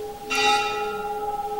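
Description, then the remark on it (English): A single bell strike rings out clearly, its bright metallic tone sustaining and slowly fading with steady overtones, heard alone without any voices. “The bell rings.”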